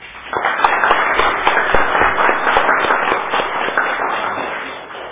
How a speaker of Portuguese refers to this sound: Então, uma forte salva de palmas para eles.